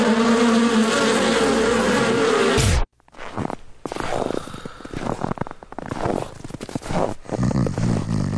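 A loud, dense buzzing of a swarm of mosquitoes drones steadily for a few seconds, then cuts off abruptly, giving way to busier, uneven rustling and thumping noise.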